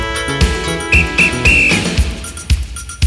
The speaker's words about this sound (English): Next time you hear the whistle, it's time to move again